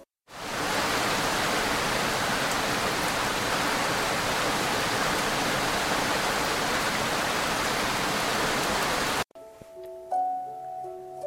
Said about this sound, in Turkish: Büyük Meşe Ormanı'nda yalnızca yağmurun sesi duyuluyordu.